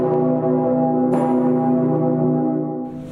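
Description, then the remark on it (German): The Petersglocke of Cologne Cathedral, a 24-tonne free-hanging bell 3.22 metres across, 100 years old, tolls on a deep C, the deepest tone of any free-hanging bell worldwide, its low humming partials ringing steadily. A fresh clang strikes about a third of the way in, and the loud sustained drone carries on without speech. “Die Glocke ist damit die freihängende Glocke, die weltweit den tiefsten Ton schlägt.”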